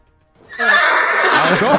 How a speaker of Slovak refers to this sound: Takto nejak by mal znieť kôň.